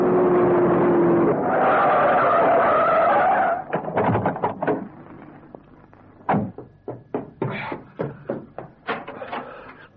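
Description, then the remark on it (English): Car tires skid and squeal in a loud, sustained screech for about three seconds as a driver burns rubber racing from a hospital to a theater's stage door, followed by a quick series of sharp knocks and clatters, like doors banging. “Meanwhile, Genius is burning rubber getting from the hospital to the stage door of the theater.”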